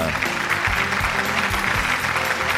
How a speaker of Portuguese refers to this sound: Uma salva de palmas pra nossa lindeza